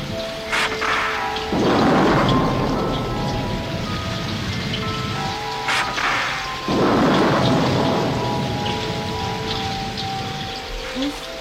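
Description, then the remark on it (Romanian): Heavy rain pours down steadily late in the evening, swelling twice into louder, rumbling surges like rolling thunder, with a faint sustained tone lingering in the background and no one speaking. “Plouă așa de tare.”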